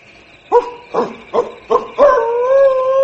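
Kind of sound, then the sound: animal, wolf howling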